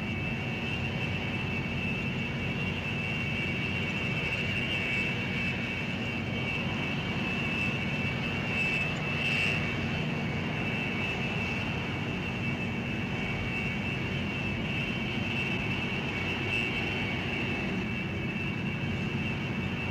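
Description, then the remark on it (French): The two GE Passport turbofan engines of a Global business jet, rated at 18,650 pounds of thrust, start up with a steady, loud roar and a sustained high-pitched whine. The level stays constant throughout, with no voices. “Lors du démarrage des moteurs GE Passport de 18 650 livres de poussée du Global, le FADEC calcule automatiquement tout”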